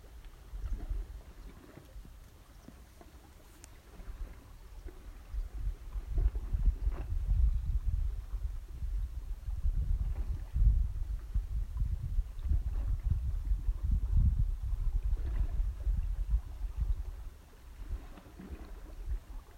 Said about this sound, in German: Dein Ort ist ein schöner Strand mit türkisblauem Wasser und Palmen, die im Wind wehen. Der Sand ist ganz weiß und ganz warm. Du spürst den warmen Sand unter dir. Und hörst die Wellen rauschen.